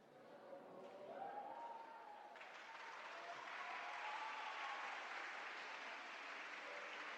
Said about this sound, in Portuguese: Nós sabemos que o público está a ganho quando eles aplaudem e ainda nem sequer tocamos.